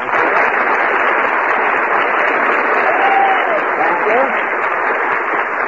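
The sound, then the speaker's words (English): A studio audience applauds loudly and steadily as Fred Allen is introduced, a dense, continuous wash of clapping with a few faint cheers and whistles rising briefly near the middle. “The man with no arms is cheering.”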